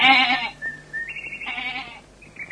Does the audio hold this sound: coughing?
no